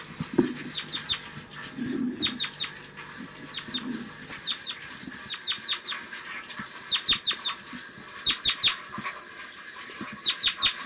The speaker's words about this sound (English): Typical flight call.